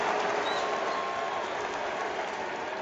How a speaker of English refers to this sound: This crowd's getting excited.